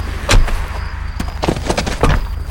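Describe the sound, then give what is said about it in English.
A car door, pulled up in front of a large house, is opened from outside for a passenger, with a solid latch thunk followed by a few sharp mechanical clicks and rattles over a low idling rumble, with no voices. “He sat a moment, stewing, then got out, went around the car and opened the door for her.”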